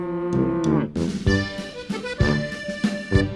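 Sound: cow mooing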